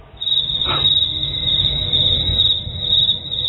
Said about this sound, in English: You can't hear the crickets on the other end, can you?